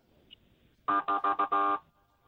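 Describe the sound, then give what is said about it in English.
An OPP police golf cart, a special events vehicle used to maneuver through crowds, honks its horn five times in quick succession, a loud, buzzy, mid-pitched beep, the first four short and the last held a little longer, with no talking. “Can you do the little honk thing again?”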